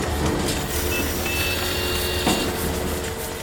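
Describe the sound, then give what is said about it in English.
A dense, steady wash of city noise from factories, industrial plants, cars and construction, with a low mechanical rumble, engine drone and a few thin high tones, like beeps, cutting through the din. No one speaks. “This was at a time when our cities were getting filled with factories and industrial plants and cars and new construction. And all of that machinery made noise.”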